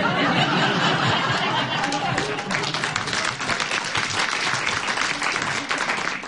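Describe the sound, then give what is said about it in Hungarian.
Dense, continuous applause from a crowd, many hands clapping at once in a steady rolling wash that stays loud throughout, with some murmured voices mixed underneath. “Bár őszintén szólva, a nagyobb hatás kedvéért időnként alákevertem egy kis tapsot.”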